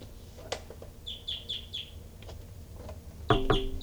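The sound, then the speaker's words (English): A caged bird gives a quick run of four short clucking chirps, then after some scattered clicks and rustling lets out a louder, fuller cluck near the end, while birds numbered 318 and 298 are being recorded. “So recording now birds 318 and 298.”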